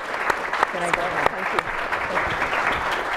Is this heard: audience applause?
yes